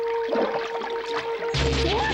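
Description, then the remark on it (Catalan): Water sloshing and swishing steadily as a man wades through knee-deep water in a pool in dim light, growing into a louder, fuller splashing surge near the end, with a faint steady tone humming underneath. “En Blue camina per l'aigua, que li arriba als genolls.”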